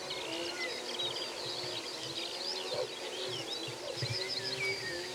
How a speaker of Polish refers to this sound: Ja jestem nad brzegiem Łęgu, a przede mną dalekie połacie otwarte, częściowo podmokłe. I słońce już schowało się za horyzontem. To, co jeszcze zostaje z dziennego życia, to rzesza skowronków, coraz bardziej się wyciszająca.